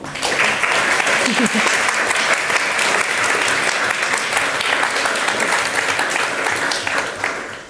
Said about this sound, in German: Einmal bitte einen großen Applaus.